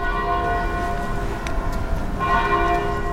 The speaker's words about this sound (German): Die Glocken der Dorfkirche läuten jede Viertelstunde, berichtet Oma Noviello.